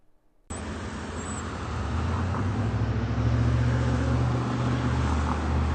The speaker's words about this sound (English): And the silence almost everywhere in the world now is traffic.